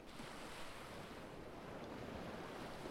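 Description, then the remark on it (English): Ocean waves wash steadily onto the shore in a continuous, even roar, with a soft breezy hiss on top and no voices, fairly quiet throughout. “Listen to the sound of the waves and imagine.”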